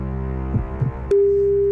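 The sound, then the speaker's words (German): A telephone ringing tone on a call to a mobile phone: after a low steady hum and a couple of soft bumps, a click introduces a loud, unbroken mid-pitched electronic tone that holds to the end. “Es klingelt.”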